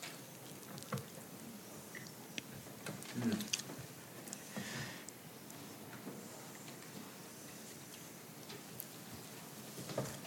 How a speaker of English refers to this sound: Oh, there's the clock.